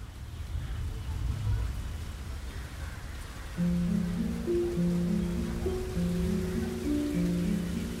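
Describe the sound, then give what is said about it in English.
A steady hiss of rain falls throughout at moderate volume outside the mother house in Calcutta, where hundreds of people stood the day after Mother Teresa died; about halfway in, soft sustained musical tones begin playing over the downpour. “Hundreds of people stood outside in the rain.”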